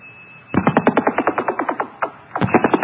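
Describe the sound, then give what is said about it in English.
Harsh, rapidly pulsing beat tones from two phones placed right next to each other, a fast throbbing warble with a thin steady whine underneath, briefly faltering near the end before pulsing again. No talking. “Listen to those 26s beating.”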